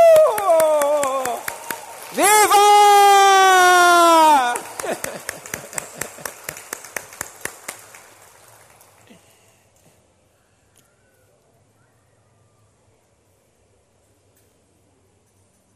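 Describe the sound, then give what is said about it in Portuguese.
Children cheer loudly with a high, sliding shout as a group of children passes by on bicycles and roller skates with their parents walking alongside, followed by a run of sharp claps that thin out and fade into quiet over the last several seconds. “Aí, aplauda aí. Aplaude, aplaude, aplaude.”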